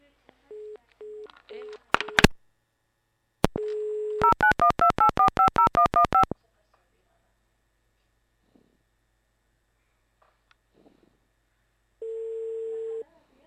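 A phone call cuts out: short repeated beeps and clicks, a steady dial tone, a quick run of keypad tones, a long silence, then the dial tone returns, clear.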